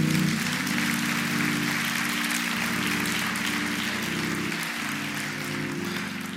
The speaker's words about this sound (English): Come on, church, give the Lord a hand clap of praise.